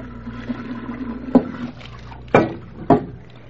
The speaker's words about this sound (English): Just let me fill these two vases with water, and then...